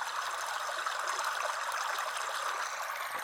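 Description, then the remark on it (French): Water pours steadily in a cascading waterfall, a continuous rushing hiss with constant loudness and no voices throughout. “Un matin, alors qu'il prenait sa douche à la casquette, le Brutalon vit un papillon très coloré qui voletait autour d'une orchidée.”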